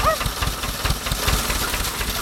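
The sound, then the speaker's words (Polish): A tractor engine idles, its low diesel chug pulsing in a steady, rapid rhythm that stays loud and even from start to finish. “Nic nie słyszę, może pan wyłączy ten ciągnik.”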